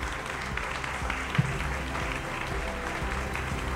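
Sustained audience applause, a dense wash of many hands clapping at a steady level for several seconds, with a faint murmur of voices underneath.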